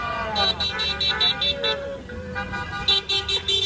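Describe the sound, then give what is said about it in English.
A surprise birthday parade of about 15 cars with signs, floats and gifts rolls past in Media, Pennsylvania, horns honking in quick rhythmic bursts over the rumble of engines and traffic, with voices faintly in the background. “People gathered at the little mini-mart down the street, and a parade of about 15 cars went by with signs and floats and gifts.”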